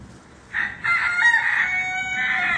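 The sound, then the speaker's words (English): A rooster crows loudly in one long, drawn-out call in a garden, with faint background noise and a hint of hens clucking. “Chickens!”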